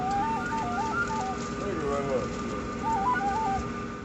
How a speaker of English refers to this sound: Penny whistle, sir?